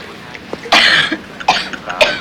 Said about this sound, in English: Smiling, she raises her glass in a toast to him and drinks, and chokes on the spirit.